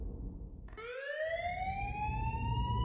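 A loud alarm siren kicks in abruptly and wails steadily upward in pitch, its shrill harmonic tone sustained over a low rumbling background, with no voices.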